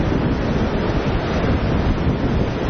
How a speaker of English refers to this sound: just off the Galveston seawall on a jetty, and Tropical Storm Erin is really whipping up the waves this morning. There are very few brave surfers willing to take a chance at this one,